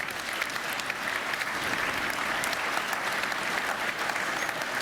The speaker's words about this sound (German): Szenen Applaus aus dem Saal.